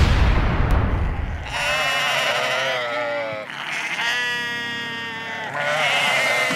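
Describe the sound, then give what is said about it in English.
Sheep raised on a small farm bleat loudly, several long wavering calls in succession, following a brief low rumbling noise at the start. “My wife and I have a small farm. Come on. And we raise sheep, Ho. Market lambs, and breeding stock.”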